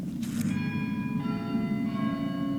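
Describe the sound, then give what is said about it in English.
Church bells ring out in a few overlapping strikes during Muslim prayers held in a church, their resonant tones lingering and layering over a steady low background rumble. “And during the prayers, we heard a sound, church bells.”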